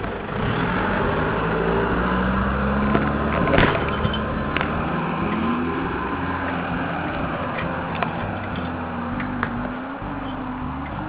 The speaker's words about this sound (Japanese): 結構車来たな。